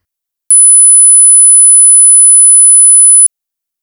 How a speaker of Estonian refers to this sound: Nüüd kuulame aga heli sagedusega 10 000 hertsi.